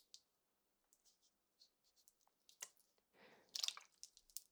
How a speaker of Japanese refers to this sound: これはペットボトルの水を傾けている音です。